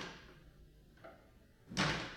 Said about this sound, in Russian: Странно, мне показалось, что дверь хлопнула.